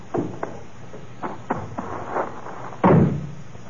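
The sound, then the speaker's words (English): The door of a house is rattled and tried, with a few dull knocks and clunks of the handle, then a heavier thump as it swings open, with no talking over it. “Let's try the door.”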